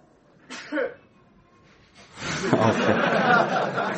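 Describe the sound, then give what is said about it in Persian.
A single short sneeze bursts out, followed after a brief pause by a longer stretch of loud, breathy, noisy sound. “اینم صبرش اومد، یعنی تایید کرد.”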